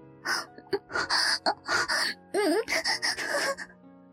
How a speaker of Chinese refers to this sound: 当鸡巴完全插入时，我不禁闷哼一声，只感觉到有个又大又热的东西进入我的体内，完全塞满了我的小逼。